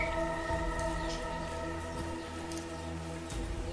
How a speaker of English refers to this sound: You know, it's raining in the morning.